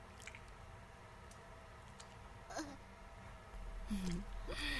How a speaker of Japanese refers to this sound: 小さなお尻をヘコヘコさせながら人手に濡れたスリットへ手指をはわせてグッチュグッチュグッチュ。陰猥な水音も聞こえてきたでしょう。